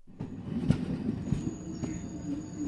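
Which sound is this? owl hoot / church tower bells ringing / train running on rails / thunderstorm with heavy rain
train running on rails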